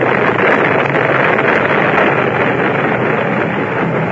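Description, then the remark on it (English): A loud, steady roar of stormy wind over the sea, broad and unbroken, with rushing water churning beneath it for the whole stretch and no voices; a storm striking a small sailboat, which breaks apart. “And true to my luck, a storm came up.”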